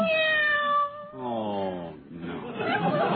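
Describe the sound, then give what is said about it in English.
A cat meows in a series of long, drawn-out, wavering cries, about three in quick succession, fairly loud. “This little kitty doesn't have a blue ribbon, but I'm sure he's Widow Tinkerbell.”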